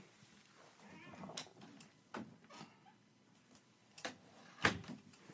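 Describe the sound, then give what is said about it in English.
A pet named Echo whines with a few soft, drawn-out cries, then she is let outside and a door opens and shuts with a series of sharp clicks and knocks. The sounds are fairly quiet, and no one talks. “She's whining. Hold on. I'm going to let her outside the door, even though she's going to want to come back in 2 seconds.”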